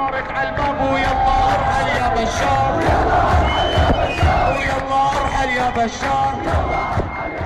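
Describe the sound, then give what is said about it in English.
A large crowd at a demonstration against the Assad regime chants and shouts in unison, a dense, loud roar of many voices with rising and falling rhythmic calls sustained throughout. “Soon the internet is buzzing with videos of demonstrations across Syria and the diaspora.”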